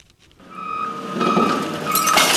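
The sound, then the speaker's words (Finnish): A garbage truck dumps a load of recyclables at a waste processing facility in Des Moines, Iowa: a steady mechanical whine under a swelling rush of clattering, clinking debris that stays loud to the end, with no voices. “Jäteauto kippaa kuormallisen jätteenkäsittelylaitokselle Des Moinesissa, Iowassa.”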